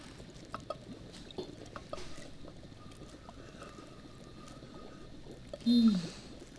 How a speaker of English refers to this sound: You hear that? The bubbling. It's starting.